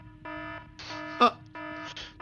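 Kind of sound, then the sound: signal or alarm, fire alarm going off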